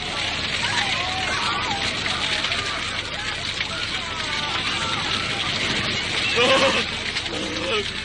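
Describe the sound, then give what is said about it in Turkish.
A dense, steady roar of a spreading fire that cannot be stopped, with continuous crackling, loud throughout, with a brief louder flare near the end and indistinct voices mixed in. “İmkansız efendim! Ateşin önünü alamıyoruz.”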